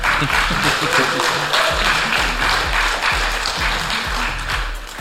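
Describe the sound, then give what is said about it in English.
A crowd applauds steadily for about five seconds to thank Ivan, who is absent, for doing lifts: a dense wash of many hands clapping at an even, sustained loudness, with faint voices mixed underneath. “Yeah, Ivan's not here, but if we can clap in his absence, that would be...”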